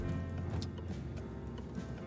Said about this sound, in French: Nous sommes en voiture avec Cédric Lapiche en direction de la rue Stephenson.